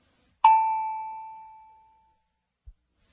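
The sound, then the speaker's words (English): A single clear, mid-high ding, a prompt tone in a speaking exercise signalling the listener to start speaking, with a sharp strike and a bright ringing tone that fades smoothly over about a second and a half, then a faint low thump. “Start speaking as soon as you hear the tone because I'll be saying the sentence only a few seconds later.”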